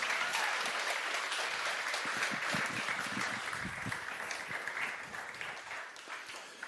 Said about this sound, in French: Vous pouvez l'applaudir.